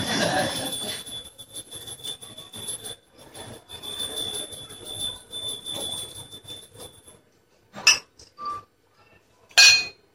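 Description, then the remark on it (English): Someone drinks water from a glass: a steady low background hum gives way to a quiet pause, then a few sharp glassy clinks and knocks as the glass is lifted and set down. “I'll drink a little water to give you more thinking time.”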